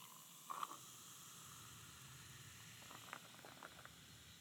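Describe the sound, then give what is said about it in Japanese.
A carbonated drink, just opened and poured into a glass holding French blue curaçao, fizzes: a soft, steady hiss of tiny bubbles with a couple of faint clicks near the start and middle. It is quiet, with no voices. “まずはこのフランス産ブルーキュラソーを注いで、炭酸ドリンクを開けてグラスに注ぎます。”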